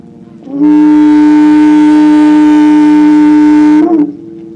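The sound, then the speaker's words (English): A cow horn is blown by a minister to call campers to worship at a camp meeting, one long, loud, steady blast lasting a few seconds, its buzzy, low-pitched drone rich in overtones before cutting off sharply. No voices are heard. “The minister called the campus to worship by the blowing of a cow horn.”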